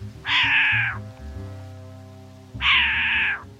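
A short-eared owl swooping by gives two loud, drawn-out, cat-like mewing calls, each under a second long, spaced about two seconds apart over a low background hum.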